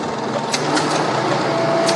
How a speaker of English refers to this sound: So you can hear the dials and the cogs all clicking. This must have been a pretty exciting and pretty loud place to work. It didn't strike me as being loud.